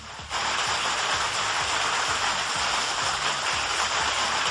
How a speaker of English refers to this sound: You know, that must have been the first time you've heard a genuine round of applause